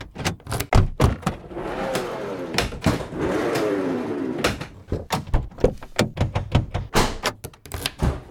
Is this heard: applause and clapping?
no